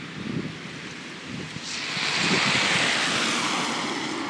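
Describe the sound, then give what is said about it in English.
Traffic whooshes past on a wet road with surface water, in soggy weather with snow beginning to settle, a steady loud engine roar with a hissing spray of water that swells louder halfway through. No one speaks. “And yes, as I say, the engines are quite loud, but you can definitely tell that there's some surface water down there, and we have plenty more of that to look forward to.”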